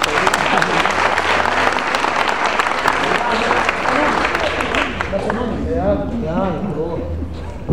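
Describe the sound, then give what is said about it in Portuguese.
A crowd breaks into loud, sustained applause for a visiting musician from Bauru, a dense wash of clapping that holds steady for several seconds while a man's voice begins speaking over it toward the end. “Pô, uma salva de palmas, meu irmão.”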